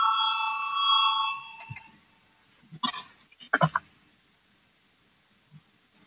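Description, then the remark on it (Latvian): A parliament voting bell, rung to call a vote on a deputy's proposal during a remote extraordinary session, sounds a steady, bright electronic tone for about a second and a half, then cuts off, leaving a few scattered clicks and soft knocks. “Lūdzu zvanu, balsosim par 161. deputāta Adamoviča priekšlikumu.”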